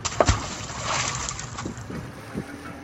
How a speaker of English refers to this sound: If you don't mind, I'm going to jump overboard and dive to the bottom of the river where there's a secret magic cave.